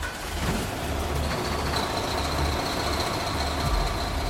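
A heavy fire engine rumbles steadily as it drives off from the station to a workshop fire, its loud engine noise continuous throughout, with a faint high whine running above the roar.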